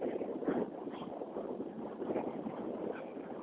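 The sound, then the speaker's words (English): Steady wind buffets a microphone outdoors during a walk with light snow falling, a continuous rushing roar with gusty swells, fairly loud, with no voices. “Wow, it's windy.”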